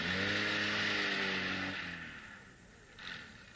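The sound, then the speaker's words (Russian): A car engine idles and revs, its steady harmonic drone fading as the car pulls slowly away into a yard, followed by a brief quieter rumble near the end. “давай загоняем машину во двор.”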